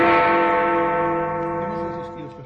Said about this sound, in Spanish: Escuchamos ahora el toque de la campana